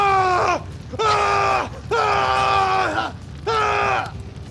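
Four loud, drawn-out screams ring out in quick succession as a house is set ablaze, each one held for a moment before its pitch slides down and breaks off, with brief gaps between them.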